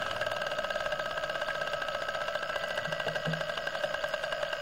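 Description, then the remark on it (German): Underwater plants releasing air bubbles that rise from beneath their leaf stalks like a string of pearls, each bubble giving a slight crack as it detaches; the countless tiny crackles run together so fast they form a steady, motor-like buzz with a faint tonal hum, holding an even level throughout. “Und wenn das aber ganz viele sind, ganz schnell geht, dann gibt es dieses wie so ein Motor, so ein Geräusch.”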